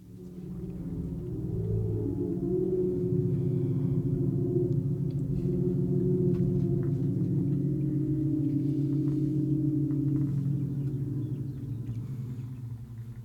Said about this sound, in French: plaisir de vous faire écouter cet enregistrement d'une œuvre d'art installée en rase campagne anglaise, Ringing Singing Tree, qui fait résonner et déforme le bruit du vent pour l'enrouler sur lui-même en un grand cœur de fantôme au milieu des champs.